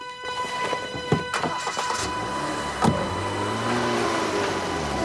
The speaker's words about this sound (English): A stunned-looking Carl watches the car drive away.